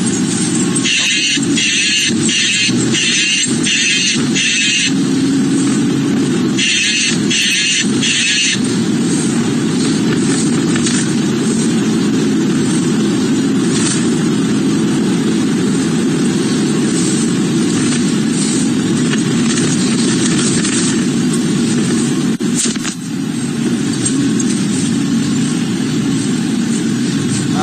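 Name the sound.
car engine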